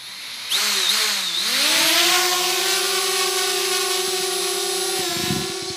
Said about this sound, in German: Die Drohne kann sich in jede Richtung bewegen oder auch in der Luft stehen bleiben.